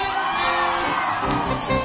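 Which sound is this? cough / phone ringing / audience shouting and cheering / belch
audience shouting and cheering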